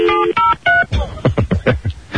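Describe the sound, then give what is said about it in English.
Three short, distinct telephone keypad tones beep in quick succession, clear, as someone dials to call back on another phone line, followed by a brief stretch of muffled, voice-like sound. “I'll call you back on the other line.”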